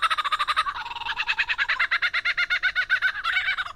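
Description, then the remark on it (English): A lyrebird mimicking a laughing kookaburra: a loud, rapid, rhythmic cackle of harsh, bright pulses that rises and falls steadily for several seconds, with no talking. “Lyrebirds are best known for their uncanny vocal abilities, which can incorporate spot-on imitations of other bird species, like this laughing kookaburra.”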